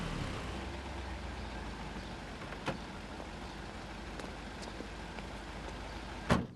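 A taxi's engine idles with a steady low rumble as it parks in front of a house in London, a faint click partway through, then a car door shuts with a sharp thud near the end as a passenger gets out. No one speaks.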